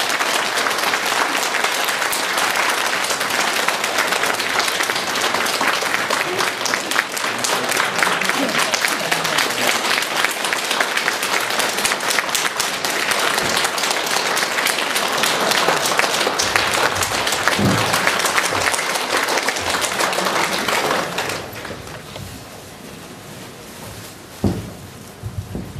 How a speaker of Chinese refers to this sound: 现在让我们用最热烈的掌声恭请我们尊敬的卢军宏台长为我们慈悲开示。